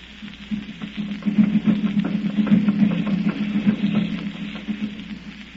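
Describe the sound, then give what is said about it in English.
Steady rain patters down over a low, constant droning hum, a dense hiss of tiny drops with scattered sharper taps, even in loudness throughout and with no voices. “You've been standing out there in the rain for hours.”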